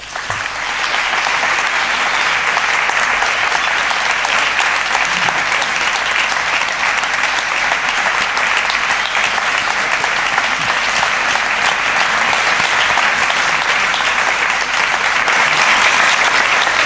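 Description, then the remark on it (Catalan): Sustained, loud applause from a large audience for the actor Lluís Giró, who portrayed Rafael Ferrer, a dense wash of clapping that holds steady for about seventeen seconds with no speech over it. “Però abans d'acomiadar-nos, demano un aplaudiment molt fort per l'actor Lluís Giró, que aquesta nit i per uns moments s'ha convertit en Rafael Ferrer.”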